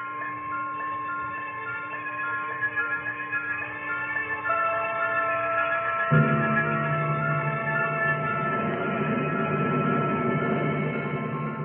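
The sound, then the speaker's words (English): A B-47 Stratojet jet bomber with two pilots flying toward the AeroMed Lab at Wright Air Development Center, Dayton, Ohio: a steady, droning engine roar with layered whining tones that swells fuller and louder about halfway through, with no voices. “The plane you hear is a B-47 Stratojet.”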